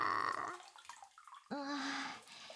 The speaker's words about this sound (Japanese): まだ炭酸水あるのでもう一回するっす。ドボドボドバドバドバ。